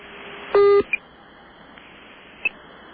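A loud, brief burst of telephone dialing tone is followed by two short, sharp beeps, one right after it and another a second and a half later, over a faint line hiss, as a phone call is picked up, hung up and cut off.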